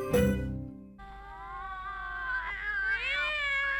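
A kitten meows: a short sharp cry, then a long, drawn-out wavering meow that rises and bends in pitch, fairly loud, with no one speaking.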